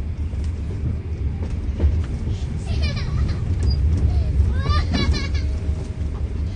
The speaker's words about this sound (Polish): Większość pasażerów pociągu to samotne kobiety z dziećmi lub wielodzietne rodziny.